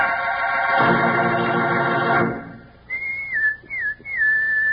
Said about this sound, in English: Sounds like a pal of yours whistling for you, doesn't it?